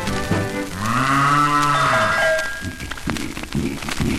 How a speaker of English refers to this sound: Bonus points for getting the cows on the record there.